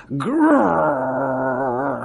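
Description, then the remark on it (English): A voice imitates a dog's whimpering whine: one drawn-out, wavering tone that rises briefly, then holds steady with a shaky quiver for about two seconds, fairly loud. “a dog with red eyes, suffering from gout, perhaps, comes pounding out of the shadows and grips Hartwright's arm”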